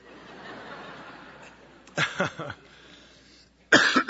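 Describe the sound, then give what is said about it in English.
A burst of several rapid, harsh coughs, a brief pause, then another loud cough, all over a faint steady hiss with no talking. It is a speaker's coughing fit from a tickle in the throat during a Bible reading. “I'm going to have one of my coughing fits.”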